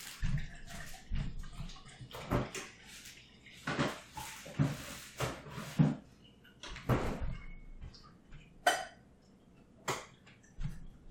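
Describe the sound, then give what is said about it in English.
Tap water runs in short spurts as a glass of water is filled, amid kitchen clatter: clinks, knocks and a few sharp bumps of dishes and objects being moved as a plate is made ready. No one speaks. “Okay, and I'm just gonna fill my glass of water and get my plate ready.”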